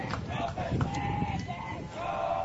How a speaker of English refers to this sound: So 2-1, and you already hear the crowd getting into it